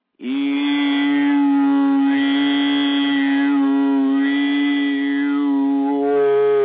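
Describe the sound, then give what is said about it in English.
A single sustained voice does overtoning on a couple of vowel sounds. It holds one steady low pitch while bright overtones shift and glide above it as the vowel shape slowly changes, a continuous, resonant drone with no other sounds. “So just with your voice alone, just a couple of vowel sounds, a little vowel movement, as it were, you get support.”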